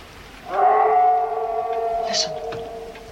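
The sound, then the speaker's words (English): A single long, eerie howl on the moors rises and holds steady for nearly two seconds before trailing off, carrying a hollow, mournful tone over a faint background hush. “Heathcliff didn't howl.”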